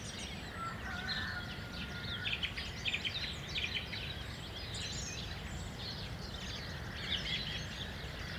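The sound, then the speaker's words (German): A lively chorus of songbirds, including blackcap, blackbird and song thrush, sings together, overlapping chirps, warbles and fluting phrases above a steady low outdoor rumble, with no voices present. “Sommergoldhähnchen, Mönchsgrasmücke, Fietes, Amsel, Ringeltaube, Hausrotschwanz, Singdrossel”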